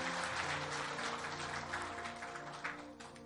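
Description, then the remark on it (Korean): An audience at Areumbit Church claps steadily after a prayer for a newly confirmed member, a dense patter of many hands that holds level for about three seconds before thinning slightly. Sustained tones hum underneath, and no one speaks. “다시 한번 박수해 주시면 감사하겠습니다.”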